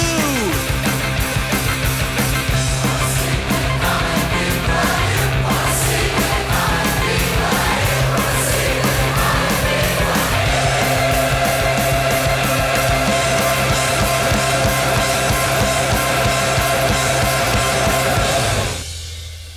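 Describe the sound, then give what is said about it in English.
A loud, dense rock band plays a cover song at full volume, with driving drums, thick guitars and raw, shouted vocals, before cutting off abruptly at the end. “That was just …, the … covered by ….”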